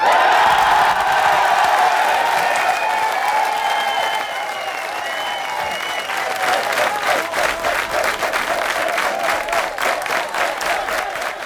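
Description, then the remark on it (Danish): A large, loud crowd at the Venstre party's 2001 Danish election night cheers and whoops, then settles into rhythmic clapping and chanting "Anders Fogh" in unison, with the steady beat running through the second half. “Ja, så begynder de ellers at råbe, Anders Fogh, Anders Fogh.”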